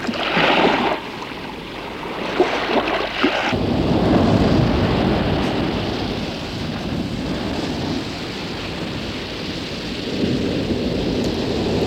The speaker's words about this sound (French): La mer est agitée.